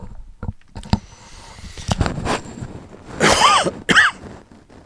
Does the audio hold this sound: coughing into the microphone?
yes